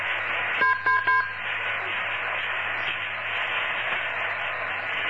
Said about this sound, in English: Okay, we had a few interesting little beeps, and suddenly you came through again.